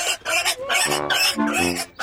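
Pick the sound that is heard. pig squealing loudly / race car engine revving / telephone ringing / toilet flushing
pig squealing loudly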